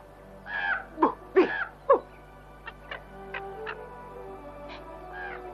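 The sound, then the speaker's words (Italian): A few harsh, rasping crow caws come in quick succession, followed by fainter, clipped calls and clicks against a quiet background. No one speaks. “Non spavento neanche una cornacchia.”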